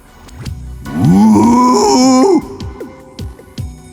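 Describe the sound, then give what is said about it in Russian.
A voice imitates a mysterious trumpet-like horn sound, as if a trumpet were stuck in the throat and twisted like a French horn: one loud, buzzing, wavering honk lasting over a second, rising then sliding in pitch, with quieter vocal sounds before and after. “Хотел переспросить, но неожиданно для себя издал загадочный трубный звук, будто любимую трубу в глотку вставили, а потом завили винтом на манер валторны.”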